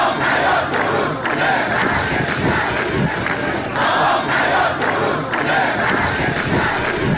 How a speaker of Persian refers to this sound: کشاورزان اصفهانی روز جمعه برای 12 روز در اعتراض به قطع حقابه خود و خشک شدن زاینده رود دست به تجمع زدند. هزاران تن از معترضان در این تجمع که در بستر خشک زاینده رود برگزار شد با سر دادن شعار خواستار احیای این رودخانه شدند.